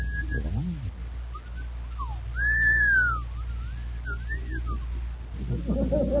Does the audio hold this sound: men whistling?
yes